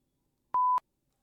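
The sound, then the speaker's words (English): A single steady, high-pitched electronic beep from a truck outside, like a reversing alarm, sounds once, clear and fairly loud, with silence around it and no one talking. “There is a truck outside beeping, as I'm sure you can hear.”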